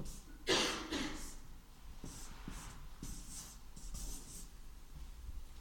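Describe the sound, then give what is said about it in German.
A marker pen squeaks and scratches across a flipchart in short strokes, starting with a louder swipe and continuing with lighter scribbles, with no one speaking. “Das erste Mal, dass ich die Flipchart hier habe. Ich habe noch keinen Stift probiert.”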